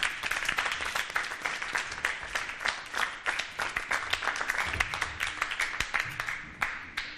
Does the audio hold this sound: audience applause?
yes